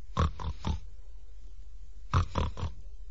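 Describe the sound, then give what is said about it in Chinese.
A voice imitates snoring in short, skipping bursts: three quick snorts, a pause, then three more, each rough and grunting, with no other talk. “这人呢睡着了，刚才啊是这位打呼噜传出来的声音，他这个呼噜与众不同，别人打呼噜是一抽一吸，这位啊是短节奏跳跃式的呼噜。”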